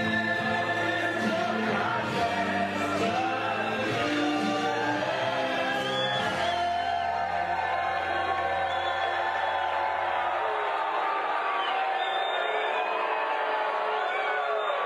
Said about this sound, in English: A couple of happy screams in there, squeals of delight. A lot of not happy squeals too.